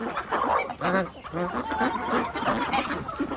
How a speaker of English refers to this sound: So we learned the sounds that those chickens make.